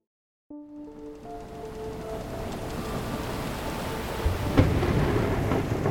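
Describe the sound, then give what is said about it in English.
A thunderstorm sweeps in suddenly: steady heavy rain hisses over a deep rolling rumble of thunder that builds, with a sharper thunderclap near the end. A brief tonal chord sounds at the onset. “Lightning tore a hole in the sky above North Carolina's coast. Wind ripped over the Pacific, battering any vessel unlucky enough to be on the water the night of January 2nd, 1813”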